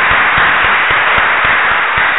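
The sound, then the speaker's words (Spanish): A church audience breaks into loud, sustained applause, a third round of applause during worship, a dense wash of many hands clapping, with a steady rhythmic pulse running beneath it throughout. “Tercer aplauso. Solo.”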